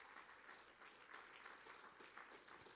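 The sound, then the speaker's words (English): A crowd claps steadily as a hand clap of praise to the Lord, many hands blending into a dense, sustained wash of applause that holds at an even, fairly loud level throughout, with no voices standing out. “Come on, give the Lord a hand clap of praise.”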